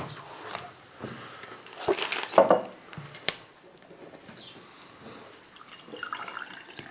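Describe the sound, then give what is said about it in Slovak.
Water is poured briefly during a municipal council meeting, a short splashing rush that rises and fades within a second or two, surrounded by quiet room noise, handling clicks and faint shuffling. “Podaj mi ja tam tú vodu.”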